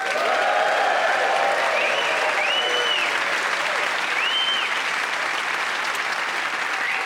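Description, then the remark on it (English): A Yorkshire audience of the panel show Just a Minute applauds steadily and loudly for several seconds, welcoming the four players Lucy Porter, Paul Merton, Zoe Lyons and Chris Cantrell. Whoops and cheers rise above the dense clapping before it gradually eases off slightly. “Please give them a proper Yorkshire welcome and whoop and cheer for all 4 of them.”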